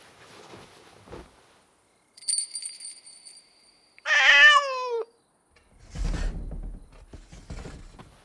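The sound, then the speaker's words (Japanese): A single loud, drawn-out meow from a Bengal cat with a rising, wavering pitch, set among a chime-like tone beforehand and some soft rustling and thuds around it. “私はベンガル猫。”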